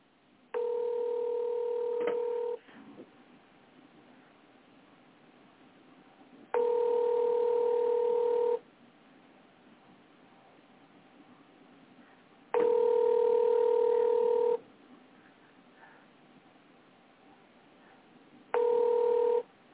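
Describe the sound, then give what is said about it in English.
Telephone line tones sound over a phone connection: a steady electronic tone plays in two-second bursts separated by longer pauses, repeating four times, clear and fairly loud, with no talking. “Just go ahead and call me back, sir, on this phone.”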